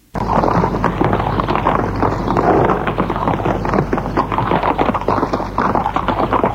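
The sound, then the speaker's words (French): A horse ridden by a young man chasing a fox gallops in a rapid, continuous drumming of hoofbeats, loud, with a steady rumble of wind or motion underneath and no voices. “Tout à coup, elles voient apparaître sur le chantier un renard, poursuivi par un jeune homme à cheval.”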